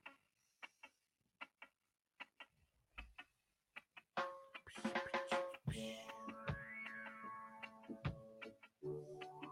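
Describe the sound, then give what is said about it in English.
A clock ticks steadily on its own for a few seconds, crisp and clear, before louder sustained tones swell in and partly cover the continuing ticks. “A lot of clock second going on.”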